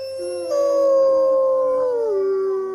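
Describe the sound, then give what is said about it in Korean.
Several wolfdogs howl together in response to a man imitating a wolf howl, in long, sustained, overlapping tones that slowly slide downward in pitch, loud, with no talking. “신기하게도 늑대 개들 역시 화답하는데요.”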